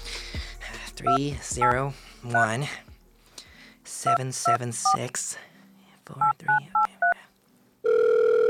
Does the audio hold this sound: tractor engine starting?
no